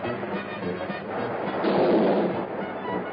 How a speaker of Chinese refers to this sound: 电影继续演着，一个汽车在追逐，枪战。